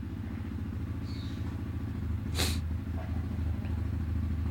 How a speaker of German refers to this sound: Was, schauen wir mal, was überhaupt für ein Auto ist. Ach, so ein Quad, ey. So Quad, ey.